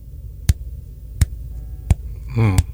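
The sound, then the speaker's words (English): A pulsar recording: four sharp, evenly spaced knocking pulses, roughly every 0.7 seconds, over a steady low hum, with a brief buzzing tone just before the last pulse. “And I encourage everyone to go on YouTube and write pulsars, and you will find the sound of it is like this.”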